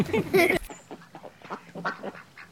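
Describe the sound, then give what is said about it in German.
Ducks quack, opening with a loud, harsh burst of calls, then a quicker run of softer, chattering quacks continuing in uneven rhythm. “Und vor allen Dingen, man soll schön lieb mit den Enten sein.”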